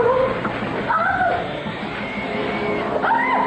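Pigs screech and squeal in several shrill, wavering cries that rise and fall, overlapping against a steady rough background noise with no talking.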